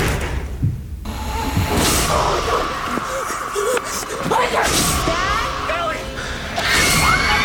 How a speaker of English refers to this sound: This is the freakiest thing that happened to me last night. This is the door closing by itself.